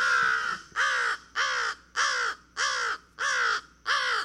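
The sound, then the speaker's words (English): A crow caws seven times in a steady, evenly spaced series. Each call is loud, harsh and raspy, and no voices are heard. “Crows look at each other and they see beauty.”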